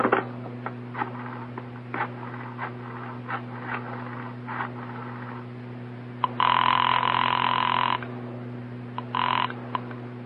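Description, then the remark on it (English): A telephone dial clicks through several bursts of rapid ticks, then a long, steady ring sounds, followed by a brief second ring, all over a faint low electrical hum with no talking. “May I use your phone?”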